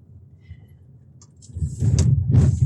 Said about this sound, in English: I can't pull the car over now because I'm in traffic. I am in traffic and I can't pull the car over because I'm also going to be late.